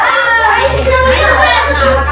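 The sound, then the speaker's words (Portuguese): A classroom full of restless schoolchildren at the only school in Aparecida de Monte Alto, watching through 3D glasses, many high-pitched voices chattering, shouting and calling out over one another in a loud, steady babble that never lets up. “Os alunos estão inquietos.”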